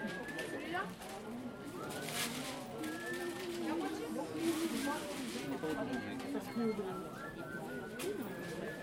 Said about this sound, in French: Un pigeon vient de s'envoler.